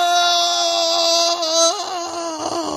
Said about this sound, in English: That's me screaming, period.